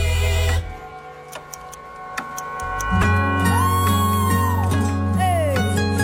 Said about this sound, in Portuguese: Tic-tac, tic-tac, seu tempo tá passando.